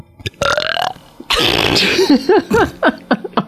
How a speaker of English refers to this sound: But I can burp on cue. And you're willing to do that on the radio right now? Yeah.